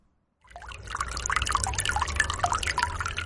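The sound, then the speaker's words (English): Water bubbles and trickles steadily from a small fountain in an office, a continuous stream of drips and gurgles starting after a brief silence, with no one speaking. “Water bubbles from a small fountain opposite.”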